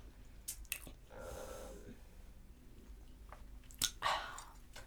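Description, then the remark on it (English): Crunchy chewing, with sharp crackling bites and a stretch of muffled munching between them. No one speaks, and the crunches come in irregular bursts. “Is that good? It's really good. It's crunchy.”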